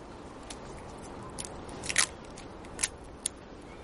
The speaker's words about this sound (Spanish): Corta celo y sujeta el papel.